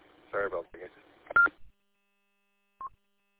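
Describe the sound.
A short transmission of muffled speech on a mobile radio ends, and after a pause a single brief, mid-pitched electronic beep sounds: the radio's roger beep, turned on, marking the end of the transmission.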